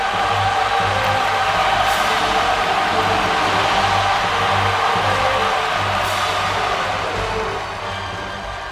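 A large crowd applauds and cheers in a dense, unbroken roar that stays loud and steady for several seconds before easing off slightly at the end.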